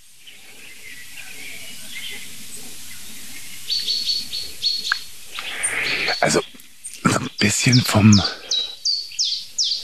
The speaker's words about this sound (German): vom Gefühl her klingt es wie eine Eule.